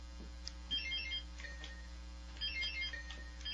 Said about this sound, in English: Let's do a quick buzzer check.